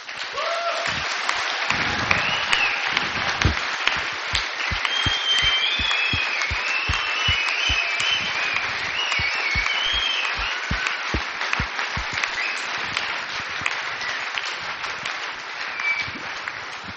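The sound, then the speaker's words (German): Sustained applause from a large audience fills the whole stretch, dense and steady, with some cheering voices rising above the clapping and a few sharp, distinct claps standing out early on. “Ich denke, das ist ein Applaus wert, oder?”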